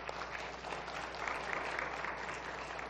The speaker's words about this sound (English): by the way, you did a great job up there in worship. We're going to give her a round of applause.